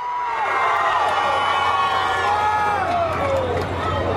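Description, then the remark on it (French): Tens of thousands of Venezuelans marching in central Caracas at an opposition rally cheer and shout steadily throughout, a dense, loud wall of overlapping voices with rising calls and whoops, continuous with no clear pauses. “Des dizaines de milliers de Vénézuéliens ont répondu à l'appel de l'Assemblée nationale, contrôlée par l'opposition, à défiler dans le centre de Caracas.”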